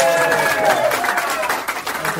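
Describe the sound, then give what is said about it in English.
A crowd applauds steadily for a performer's grandmother, a dense wash of clapping with excited voices cheering over it, loud, lasting a couple of seconds. “Oh, round of applause for his grandma.”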